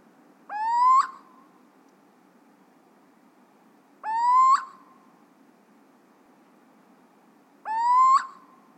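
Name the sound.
owl hooting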